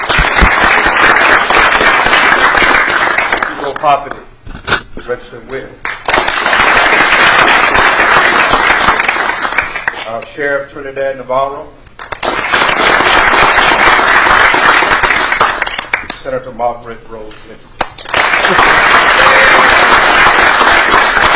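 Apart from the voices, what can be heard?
audience applause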